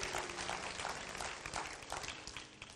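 A crowd claps steadily, a dense wash of many hands striking at once, fairly loud and sustained throughout with slight swells, no voices standing out.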